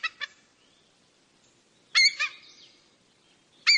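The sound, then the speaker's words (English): A bald eagle gives short, hoarse cackling calls in a few separated bursts, each a quick pair of harsh, high-pitched notes, clear against a quiet background. “Mostly they are silent, and that's just as well, since their voice is hardly the regal scream you might expect from our official bird. It's more of a hoarse cackling or chirping.”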